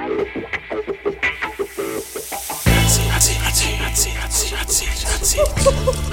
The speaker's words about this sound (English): These are the hydrophonic tones of hot seat time. Yes, that is correct. That is when we put our experts on the hot seat while they answer